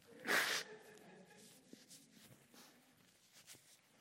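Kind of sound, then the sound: human body sound, sniffling nose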